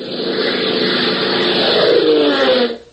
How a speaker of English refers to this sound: Flying a borrowed Army B-26 medium bomber, Hop, Tank, and John Temple roared southward from Lakeville, across Central America, and over the eastern waters of the Pacific